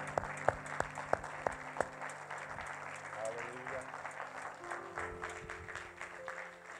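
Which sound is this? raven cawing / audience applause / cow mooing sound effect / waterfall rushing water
audience applause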